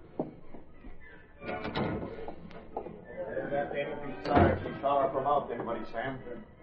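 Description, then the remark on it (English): A kitchen service door thuds shut, a solid knock of wood amid muffled shuffling and indistinct voices. “Sounded like the service door in the kitchen.”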